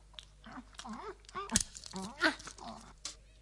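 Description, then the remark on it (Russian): A dog crunches and chews on bones, with a few sharp cracks among the gnawing, while a voice makes murmuring, talk-like sounds over it. “Ой, какие тут замечательные кости.”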